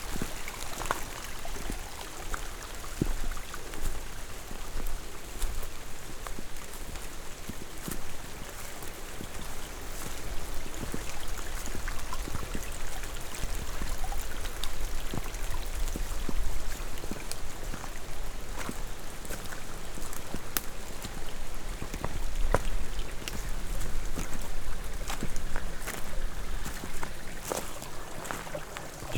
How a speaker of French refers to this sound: C'est là, la forêt vierge. Humide. Il pleut. Il fait soleil. Ambiance tropicale.